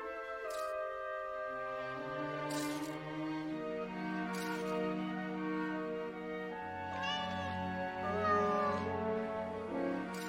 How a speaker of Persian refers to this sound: اون دیگه کیه؟ یه گربه که قراره نهمین جونشو از دست بده.